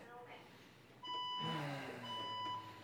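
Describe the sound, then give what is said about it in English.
An alarm panel gives off steady, high electronic tones that begin abruptly partway through, pause briefly, then resume, fairly loud, with low murmuring voices or rumble beneath. “Alarm, yeah.”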